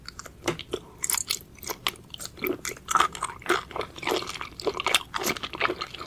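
Wet chewing and biting on rubbery squid in an ASMR eating video, with repeated squishy crunches in an irregular rhythm, loud and intimate against a quiet background.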